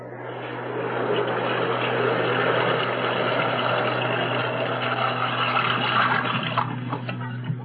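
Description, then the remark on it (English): Water pours steadily from a tap into a tub being filled for a hot bath, a continuous rushing hiss with a low, droning hum underneath. It stays fairly loud and even throughout, with no voices. “I'm going to boil some water and fill the tub.”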